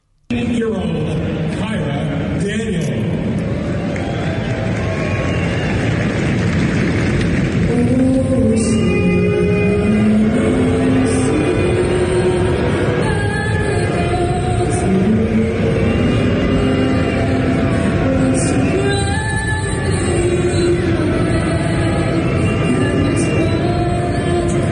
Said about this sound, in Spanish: Vamos a escuchar el abucheo al himno nacional de los Estados Unidos.